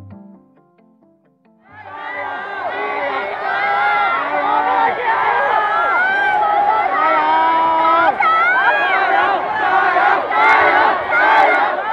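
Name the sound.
protest crowd shouting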